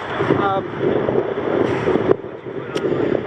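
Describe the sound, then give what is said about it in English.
Steady wind buffets the microphone with a dense, rushing roar that swells and dips slightly, broken by a brief thump near the middle. Faint voices may sit beneath it. “Windy, isn't it?”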